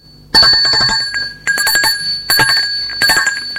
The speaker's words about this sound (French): est réveillé par la sonnette de la porte d'entrée. Il se demande qui ça peut bien être. Il n'a pas envie de se lever, mais on insiste.